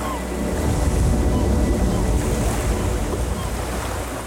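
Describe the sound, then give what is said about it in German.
Steady surf rolls in along the Seelendorfer Strand on the Baltic Sea coast of Schleswig-Holstein, a continuous broad wash of breaking waves with wind rumbling on the microphone, no distinct individual wave crashes standing out. “ich bin heute wieder unterwegs am Seelendorfer Strand”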